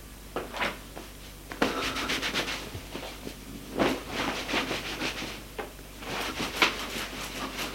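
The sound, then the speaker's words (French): A man briskly dries off with a towel after a shower: irregular rubbing and swishing strokes of cloth, some sharper than others, with no talking over the eight seconds. “Il s'essuie avec une serviette.”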